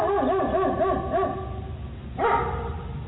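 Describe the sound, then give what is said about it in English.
A dog barks in a quick run of sharp, high yips, pauses briefly, then lets out another louder burst over a muffled, low-fidelity background. “Dog come to the door.”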